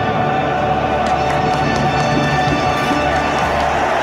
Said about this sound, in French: Et l'acclamation du stade Santiago Bernabéu.